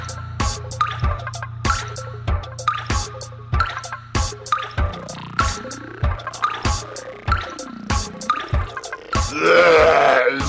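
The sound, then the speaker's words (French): Water drips steadily from a tap, resonant, each drop a clear plink falling about twice a second over a low hum, before a brief rush of running water at the end. “Non, touche pas à ce robinet.”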